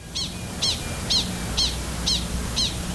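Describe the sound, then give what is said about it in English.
A prairie dog's alarm call describing a predator: six sharp, high chirps repeated at a steady, quick rhythm, clear over a low background rumble. “This is a prairie dog giving an alarm call, and in the alarm call, the predator is being described, and not only is the prairie dog giving the species of predator”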